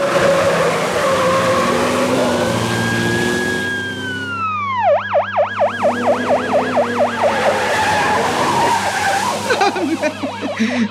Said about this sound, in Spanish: La persecución por las calles se inicia, furiosa, enconada.